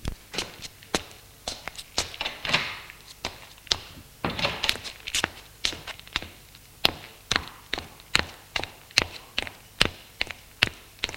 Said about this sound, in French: Il sort de la pièce et descend les escaliers.